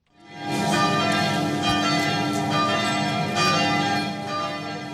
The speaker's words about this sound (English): The sound of church bells filled the rural French town of Trèbes on Sunday as hundreds of mourners packed a church for a service for the victims of a terrorist attack.